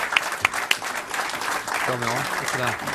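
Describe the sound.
An audience claps steadily in a dense burst of applause, with a voice talking over the clapping in the second half.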